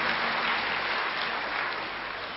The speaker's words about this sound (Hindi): हाँ जरूर, क्यों नहीं ताली बजाएंगे।